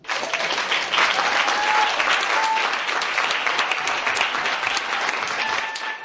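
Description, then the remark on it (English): A crowd of Roma and non-Roma friends who travelled from Ostrava to Prague claps and cheers steadily for several seconds as the American ambassador announces the Alice Masaryk human rights award, a dense, loud wash of applause with a few brief whistles or shouts rising above it. “There was a huge cheer of support from Kumar's many friends, both Roma and non-Roma, who had made the long journey from Ostrava to Prague as the ambassador announced the award.”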